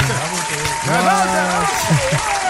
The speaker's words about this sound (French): On va agrémenter ça d'une main d'applaudissements.